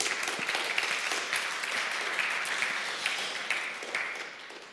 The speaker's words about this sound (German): Und also vielen Dank an die Leute, die sich auch darum kümmern. Ich finde, die haben mal einen Applaus verdient.